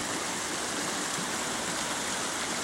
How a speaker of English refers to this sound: This is a sound we're used to hearing year-round, but these days, this river only flows for a few months a year.